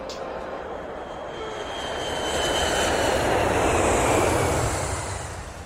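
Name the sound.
airplane engine cabin ambience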